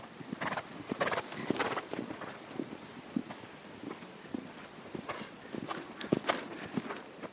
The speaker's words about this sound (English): A small crowd watches as eight riders canter around a large outdoor ring at the U.S. Equestrian Team headquarters.